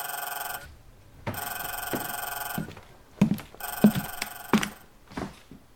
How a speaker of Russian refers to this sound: Иосиф как раз собирался лечь спать, когда зазвонил телефон.